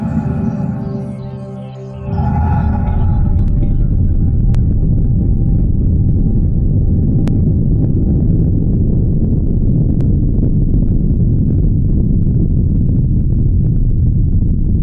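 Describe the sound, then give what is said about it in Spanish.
A rocket lifts off: after a brief quieter hum, a loud, deep roar bursts in about two seconds in and rumbles on steadily and powerfully to the end, with no voices. “Por eso siempre hacen un gran sonido mientras despegan.”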